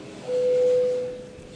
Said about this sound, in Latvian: Lūdzu zvanu. Balsosim par 26. partijas par cilvēktiesībā vienotā Latvijā frakcijas priekšlikumu.